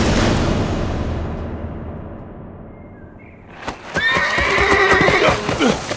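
A low rumbling noise fades out, then a bucking horse lets out a loud, shrill whinny lasting a couple of seconds in chill morning air, accompanied by sharp, irregular hoof clops.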